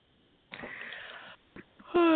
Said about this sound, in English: That's why she's yawning right now.